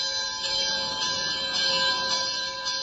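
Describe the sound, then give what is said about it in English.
A Buddhist temple bell in Singapore rings with a sustained, shimmering metallic tone whose layered overtones hang steadily in the air, pulsing faintly at regular intervals. No one speaks. It is rung because someone has just made a donation. “Moving over to a Buddhist temple, we hear the bell ringing, and the young man explains to me that that's because someone has just made a donation, a contribution.”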